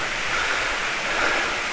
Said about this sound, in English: Shoot. Rain's coming down.